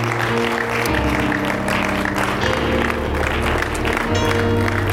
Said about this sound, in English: Let's give the Lord a good clap offering this day. Amen.